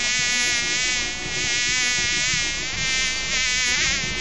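A fly buzzes continuously, its steady whining drone wavering slightly in pitch and loudness, with no voices present.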